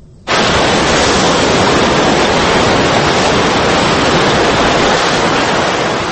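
A loud, steady roar of rushing tsunami floodwater in Japan after an earthquake, sweeping houses and cars along, begins abruptly and continues without pause, a dense wash of churning water filling the whole clip with no voices.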